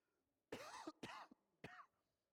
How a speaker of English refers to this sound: Whew, I have to cough again, excuse me.